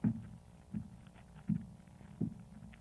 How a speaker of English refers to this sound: Someone's coming up the stairs. Open the door, Watson. Very well, Holmes. I'm sure this is our man. His step sounds like the tread of a giant.